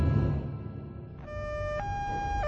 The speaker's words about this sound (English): Sirens and lights were going off everywhere, and near as he could tell, it had nothing to do with him and Chewie.